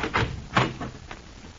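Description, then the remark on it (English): A doctor, case in hand, opens a door: a couple of short creaking, rattling scrapes at the start and a fainter scrape trailing after, with no voices. “Dr. Hawley opens the door and stands case in hand waiting for Mr. Fowler, the nervous hotel manager.”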